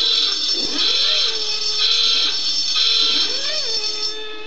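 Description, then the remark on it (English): A loud, harsh electronic klaxon buzzer from the QI game show, sounded for a wrong answer, blares continuously for several seconds, its grating tone pulsing slightly in strength, sounding alone. “Because then you'll hear the famous klaxon noise.”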